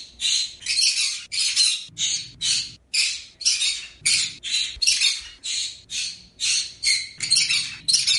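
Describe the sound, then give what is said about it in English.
A pet bird named Ari screams over and over in loud, harsh, high-pitched squawks, about two per second in a steady rhythm, with no voices alongside. The bird is screaming for attention and food. “And if he doesn't get it, he screams.”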